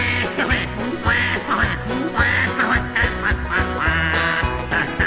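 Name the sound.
ducks quacking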